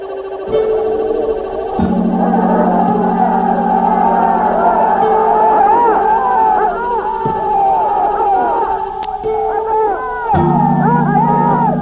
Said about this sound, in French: la foule crie en ce moment à mort à l'assassin, la minute est épouvantablement bouleversante.